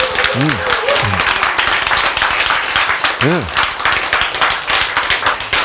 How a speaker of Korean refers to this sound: 이것도 박수 한번 쳐야 돼.